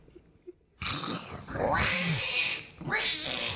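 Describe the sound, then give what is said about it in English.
A person imitates a pig squealing with a loud, shrill, strained noise in two bursts, a long one followed by a shorter one, with no other talk. “Gonna make that bunny squeal like a pig.”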